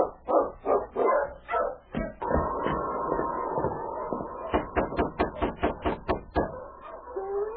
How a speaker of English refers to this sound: Shortly after Jim Higgins left his cabin with food for the prisoners, Sergeant Preston drove up with his dog team. Ho, King!